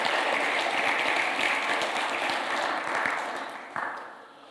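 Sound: round of applause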